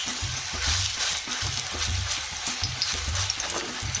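Kebabs made from chicken mince sizzle steadily in a hot pan, a dense crackling hiss across the whole clip, with soft rhythmic low knocks as they are turned over while cooking through. No one speaks.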